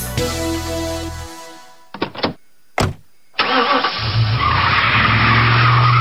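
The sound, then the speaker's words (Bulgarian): An engine revs and fades, a few quick mechanical clunks follow, then car tires screech loudly in a long, sustained skid over a roaring engine as a car makes a hasty departure for the supermarket. No one speaks. “Така звучи спешното тръгване към супермаркета, защото си забравил да купиш памперси.”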